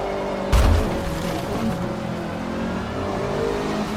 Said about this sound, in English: I think I can hear his car.